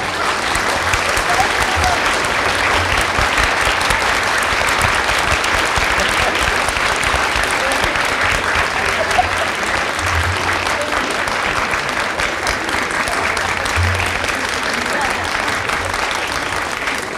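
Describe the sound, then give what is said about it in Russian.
An audience applauds a performer, a dense wash of many hands clapping at a steady, loud level for the whole stretch without letting up. “Чтобы на него смотрели, чтобы ему аплодировали.”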